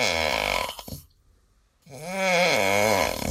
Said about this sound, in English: The answer, a man snoring. Wives, you can be thankful that's not your guy, right? Or maybe it is.